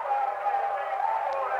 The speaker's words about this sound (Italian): Sentirete alle mie spalle il grande incitamento del pubblico di Ancona